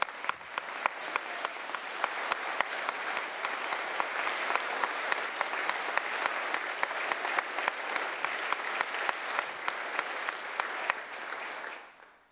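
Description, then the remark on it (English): A crowd applauds a family man and hard worker who benefited from the expanded MAP grant program, steadily for about twelve seconds, a dense wash of clapping with sharper individual claps cutting through, holding an even level before tapering off at the end. No one speaks. “Please give a round of applause to a great family man and a hard worker”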